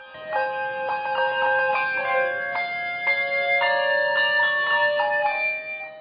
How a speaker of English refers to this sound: The students are caught off guard and look around as the bell ringers, who have been sitting among them, reveal their bells and begin ringing them as they move up onto the stage. Once assembled, they play.